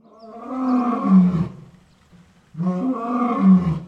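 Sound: big cat roaring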